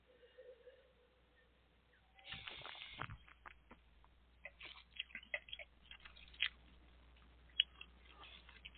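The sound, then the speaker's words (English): A soft slurping second sip of a 13.8% alcohol wine, followed by quiet wet mouth clicks and smacks as it is swished and tasted, over a low steady background hum with no talking. “Okay, second sip. Let's see what we got here.”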